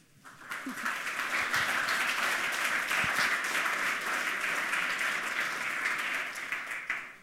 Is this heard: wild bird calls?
no